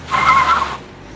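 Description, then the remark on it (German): A car pulls away with a short, loud, shrill squeal of tires, lasting under a second before fading into a quiet engine hum. No one speaks. “Er denkt kurz nach, kommt zu keiner Lösung, schmeißt den Aktenkoffer voller Cremeproben auf die Rückbank, dreht das Autoradio auf und fährt los.”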